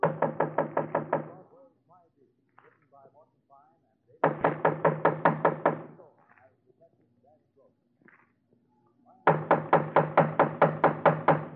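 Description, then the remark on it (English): Three loud bursts of rapid, rhythmic knocking on a door, each a quick run of about eight or nine sharp raps, with brief pauses and faint murmuring voices between them. “Just knock on the door, huh”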